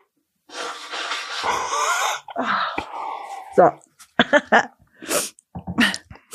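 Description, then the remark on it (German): A drawn-out, breathy build-up with voiced straining gives way to a loud sneeze into a microphone, then a run of short, sharp bursts of breath and snorting noises. “Bitte nächstes Mal auch ins Mikrofon niesen.”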